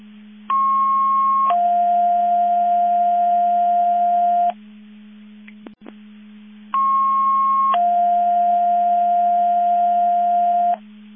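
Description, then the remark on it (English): Two identical electronic alert tone sequences from a Division 2 radio dispatch test, each a short higher steady tone stepping down to a longer lower tone lasting about three seconds, separated by a brief gap with a click, over a constant low hum. “Division 2 with a test tone and a test tone only.”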